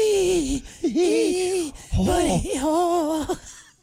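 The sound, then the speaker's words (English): A voice imitates the heavy, labored breathing of a big fish swimming towards a worm, with a series of voiced huffs and groans that rise and fall in pitch, roughly four strained bursts over a few seconds. “Breathing hard. As he's swimming towards the worm.”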